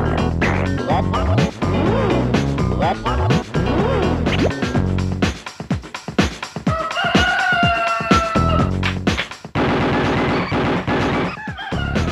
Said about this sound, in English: And imagine this, but sped up, so it sounds a bit …. The sound, ooh, that was the funniest death of a cockerel on any kind of audio thing. However, this one was pretty good, and I invite you to play it.